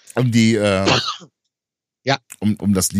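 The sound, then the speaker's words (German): A drawn-out, voiced throat clearing, then after a brief pause a few short, quick coughing bursts in a row. “Sag nicht so lustig, ich muss husten.”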